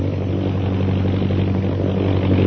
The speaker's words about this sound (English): Listen. The plane. It's coming back.